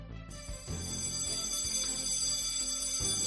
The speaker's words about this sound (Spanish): Suena el timbre del colegio porque precisamente vamos a hablar de ellos.